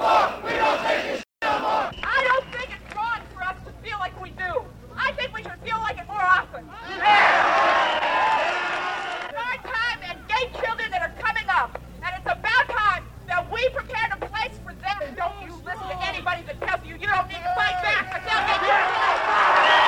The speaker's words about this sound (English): The crowd has assembled. Candles are being lit. Posters are held on high. The street, the steps of City Hall, the street in front of it, back to the reflecting fountain, is filled well over 5,000 people, I would estimate, at this moment.